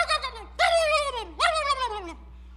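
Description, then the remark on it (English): A wild turkey tom gobbles three times in quick succession at sunrise, each loud, warbling call sliding downward in pitch, with short pauses between them and no other sounds. “I'm just waiting for that turkey tom to break the silence of sunrise by that.”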